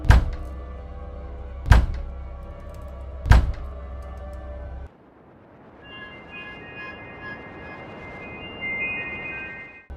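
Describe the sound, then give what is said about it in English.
Three heavy, booming bangs by large, powerful hands on a house door, evenly spaced about a second and a half apart, loud, then a low murmuring hum with faint high ringing tones. “Large, powerful hands banged on my door.”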